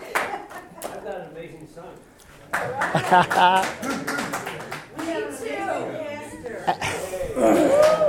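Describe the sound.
A short burst of applause, a quick run of sharp, bright claps, heard under and between people talking, fading as the voices carry on.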